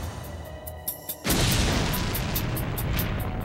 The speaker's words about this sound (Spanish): La explosión fue tan poderosa que lanzó a Fowler a medio metro por el pasillo.